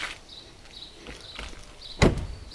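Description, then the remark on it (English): A single heavy car front door slams shut, a deep solid thud near the end, preceded by faint rustling and movement with a thin high hiss in the background. “The front door makes this sound.”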